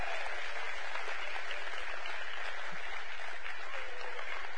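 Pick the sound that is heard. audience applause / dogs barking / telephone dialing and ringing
audience applause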